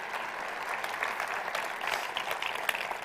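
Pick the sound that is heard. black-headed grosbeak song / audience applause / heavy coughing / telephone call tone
audience applause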